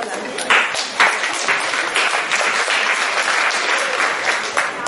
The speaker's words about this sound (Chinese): 谢谢各位掌声鼓励， 给您更换一场。